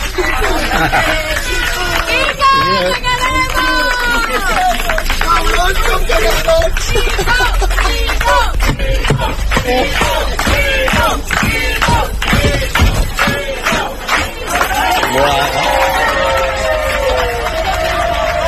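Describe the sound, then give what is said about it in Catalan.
A crowd of neighbours in Les Planes, Barcelona, cheers and shouts together in a loud, continuous roar, voices overlapping with excited yells and babble that swell and ebb without pause, in a farewell to the retiring driver of bus 118. “És l'emotiu comiat d'uns veïns de les Planes de Barcelona, el conductor de l'autobús 118,”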